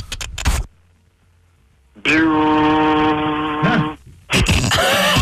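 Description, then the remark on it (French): A voice imitates a jackhammer with a loud, sustained buzzing drone lasting about two seconds, framed by short rough bursts of vocal noise before and after. “Après avoir été réveillé par le bruit d'un marteau piqueur.”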